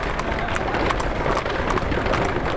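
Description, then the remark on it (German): A busy street scene in Hamburg's Neustadt in the mid-19th century, with horse-drawn carriages rolling by among street vendors, vegetable sellers and maids, hooves clattering steadily beneath a dense, continuous murmur of crowd voices and bustle, fairly loud throughout. “Zwischen Straßenhändlern, vorbeifahrenden Pferdekutschen, Gemüseverkäuferinnen und Dienstmädchen sticht Johann Wilhelm Benz deutlich heraus.”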